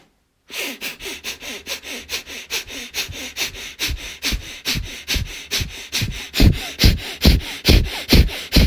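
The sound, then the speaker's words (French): Rapid, forceful nasal breaths of a breath-of-fire breathing exercise, done with eyes closed, arms stretched and palms facing the ceiling, pump in a steady rhythm, roughly three per second, sharp, growing louder over time, with no talking. “Fermez les yeux, concentrez entre les deux sourcils, au troisième œil, et commencez une puissante respiration du feu.”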